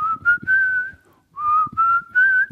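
A clear whistled melody from a song in two sustained phrases with a brief pause between them, held at a steady mid-high pitch over soft low thuds.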